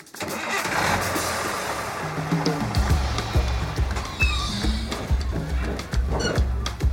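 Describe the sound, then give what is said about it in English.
The heavy diesel engine of a crowded bus rumbles into life and idles unevenly, a deep, loud, throbbing drone with rhythmic low pulses and occasional rattles, with no talking. “You climb up the steps to a crowded bus and you take your seat.”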